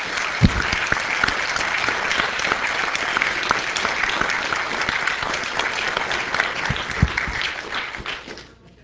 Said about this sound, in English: They clearly deserve a solid round of applause, so thank you.